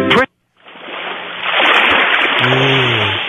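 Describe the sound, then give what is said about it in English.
A brief voice, a moment of silence, then a steady roar of ocean waves from a telephone sleep-line recording swells in and grows louder, with a sustained seagull cry rising over the wash near the end. “Press 1 to hear the relaxing sounds of the ocean.”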